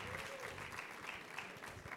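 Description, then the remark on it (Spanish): A crowd claps steadily to welcome an apostle, a dense, continuous patter of many hands at a moderate level, with no single voice standing out throughout. “Lo recibimos con un fuerte aplauso al Señor y con grandes expectativas de lo que Dios va a hablar con nosotros.”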